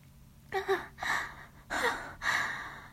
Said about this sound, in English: I can hear you straining and panting and stop bucking your hips.